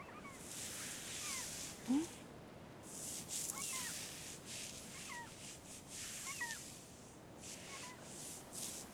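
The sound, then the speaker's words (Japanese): Black-tailed gulls by the sea give scattered, cat-like mewing calls over a steady hiss of sea and wind, several birds crying, with one louder call early on. “海猫たち戻ってきたね。”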